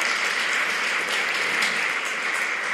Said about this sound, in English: Now you can give those guys a round of applause. Thank you guys for that.